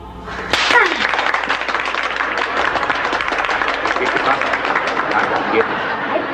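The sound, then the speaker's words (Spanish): A crowd breaks into sustained applause, a dense, steady wash of many hands clapping that starts abruptly and continues evenly to the end, with faint cheering mixed in. “Es que usted se merece ese aplauso.”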